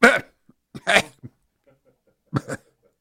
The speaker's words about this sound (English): And of course, now it's time for the traditional coughing spell.